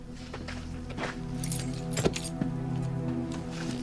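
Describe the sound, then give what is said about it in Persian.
A man's car keys jingle in several quick metallic clinks as they are handed over, over a low steady engine-like hum, with a slightly louder rattle midway as they change hands. “شین، سویچ ماشین آقا رو بده خدمتشون”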